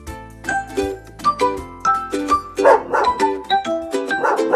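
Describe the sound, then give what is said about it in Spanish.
A dog, a Labrador named Texas, barks several times in short, sharp bursts, fairly loud, over a light plinking melody of bell-like notes. No one speaks. “Mi nombre es Texas y soy un perro de la raza labradora.”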